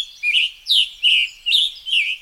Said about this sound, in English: Now, we hear a scarlet tanager.